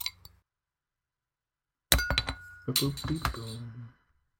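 A bottle of Lost Coast Brewing Company beer from Eureka, California is opened and poured into a glass: a faint click, a short pause, then about two seconds of glassy clinks and splashing pour.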